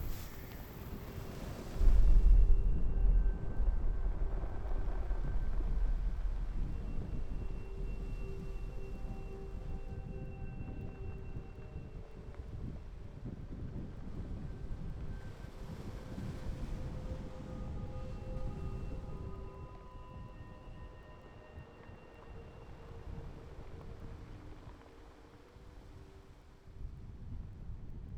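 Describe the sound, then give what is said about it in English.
The roar of the sea, muffled by a hill, heard from a little hollow on the way to the harp site: mostly a deep continuous rumble with softer hiss and upper frequencies on top, holding at a fairly even level throughout with no voices. “Notice how the sound of the sea is reduced enormously. You can still hear the background roar and the upper frequencies, but it's muted by the hill that's on my right-hand side.”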